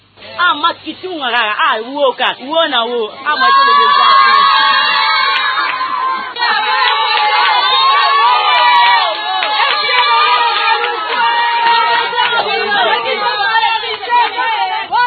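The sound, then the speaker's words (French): Market vendors, men and women, shout and cheer together with joy at a new market in Maluku, a loud crowd, voices overlapping in sustained excited cries with whoops rising above the clamor, continuous throughout. “Ces cris traduisent la joie des vendeurs et vendeuses de ce nouveau marché de Maluku.”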